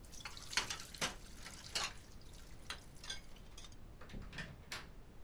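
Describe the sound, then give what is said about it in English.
Faint shower water heard as scattered splashes and drips over a soft steady hiss, irregular bursts spread across a few seconds, no one talking. “You just finished showering.”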